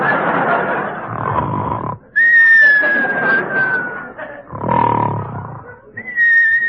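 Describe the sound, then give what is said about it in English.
Loud snoring alternates rough, rasping inhales with high, steady whistling tones that slowly slide down in pitch, repeating in a comic cycle. “Now come the whistles.”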